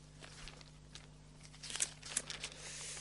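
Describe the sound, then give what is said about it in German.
Soft papery rustling and crinkling as Bible pages are flipped to the Book of Revelation, chapter 4, with a few sharper crisp bursts in the second half over a low steady hum; quiet, and no one speaks. “Müsst ihr gleich blättern hier wieder.”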